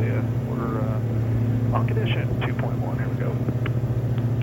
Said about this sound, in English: This wasn't a journalist joyride, by the way. We were observing a regular test flight of the Alia. They were putting it through various tricky maneuvers to see how it could recover.